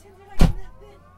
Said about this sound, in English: Okay, it'll light off right now. They hear the engine light off. Yep. Now it's modulating the start all by itself. The fuel is going in the engine. The blades are spinning. They start slow and they go a little faster and faster until they get to idle